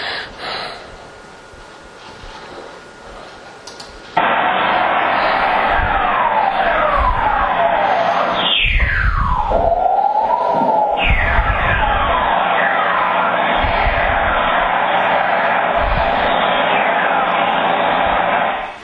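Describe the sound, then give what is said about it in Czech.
Very low frequency electromagnetic radio waves played from a computer as sound: a dense crackling hiss with repeated gliding whistles, including one loud, long falling tone midway and many fainter chirping sweeps, preceded by quieter static. “Prosím, připomínám, že je to elektromagnetická vlna, to, že to slyšíme ušima, je jenom tím, že má tak nízkou frekvenci, že když to pustím z počítače, tak si to můžeme poslouchat ušima, ale je to elektromagnetická vlna.”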